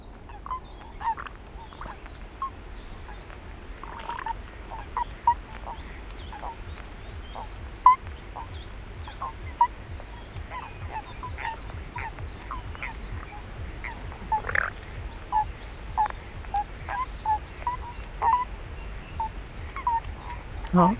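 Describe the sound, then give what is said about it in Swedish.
A toad calls repeatedly in short, yelping bursts over a steady outdoor background hiss, with the calls growing quicker and more frequent toward the end. “Ska vi lyssna på paddan också då?”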